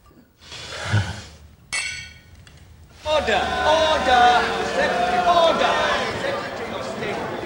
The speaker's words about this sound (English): John raises his glass and Mo clinks it with hers.